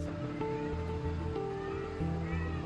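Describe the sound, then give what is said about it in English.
Trapped street cats meowing over a steady, droning background with sustained low tones, the cries rising and falling in pitch, no voices. “We have to need 3 cats here out of the 40 plus that we trapped.”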